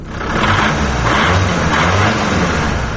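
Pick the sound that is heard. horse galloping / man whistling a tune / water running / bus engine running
bus engine running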